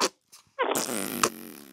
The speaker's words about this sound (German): Einen dicken Pups zum Abschied.